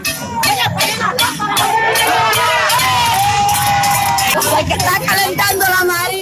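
A large crowd of protesters in Campechuela, Granma province, shouting together on a Friday night to demand that electric power be restored, a loud, dense roar of many raised voices with overlapping yells and chants that keeps going without a break.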